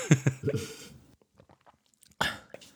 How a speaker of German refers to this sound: Hast du gerade getrunken? Ich habe gerade getrunken. Mischung leer, das war ein leeres Glas, ja, habe ich gehört.